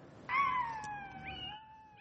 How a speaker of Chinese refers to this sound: 这不仅仅是这位女士的爱犬像狼一般的嚎叫，还是她在自己的智能手机上听到的波形刺青。